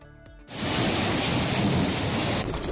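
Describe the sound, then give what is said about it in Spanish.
A short tonal hum gives way to a loud, steady roar of heavy rain with a deep rumble of thunder underneath, lasting about two seconds before it suddenly drops away: a heavy downpour in Tudela de Duero, Valladolid, that flooded several homes and covered the town's football field with water. “Otra vez, una fuerte tromba de agua anegaba varias viviendas y ha dejado totalmente cubierto de agua el campo de fútbol del municipio.”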